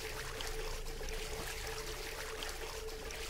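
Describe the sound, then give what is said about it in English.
A steady, soft wash of deep water sloshing and trickling as someone swims through it, continuous and fairly quiet with no voices. “The water's deep. Let's do some swimming.”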